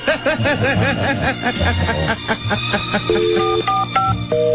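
Chirpy, giggling voices give way to a short run of steady electronic telephone dialing tones as a call is placed that goes unanswered, a few distinct beeps in sequence, fairly loud over a busy background.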